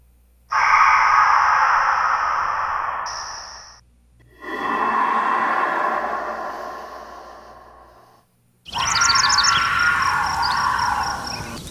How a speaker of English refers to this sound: So what we just listened to was a roar. What they believe, what they're telling us, is the roar of a Sasquatch, Bigfoot, a gorilla, and a puma.